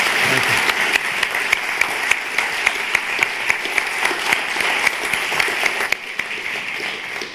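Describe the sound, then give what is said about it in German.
Sustained applause from an audience for a speaker after a talk, dense overlapping claps at a steady level for several seconds, easing slightly toward the end. “Und dieser Applaus gilt jetzt dir.”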